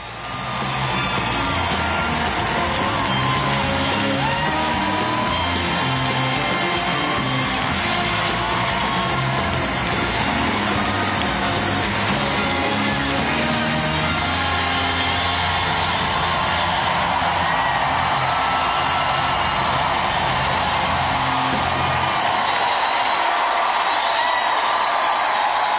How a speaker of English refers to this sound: Yeah, we're including the applause just so you can get a sense of the absolute enthusiasm.